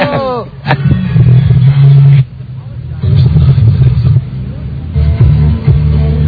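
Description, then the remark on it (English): The engine of a car being driven around drones loudly, revving and easing off in surges with brief drops in between, while muffled voices chatter over the rumble. “I love that we are doing a radio show while we are driving around.”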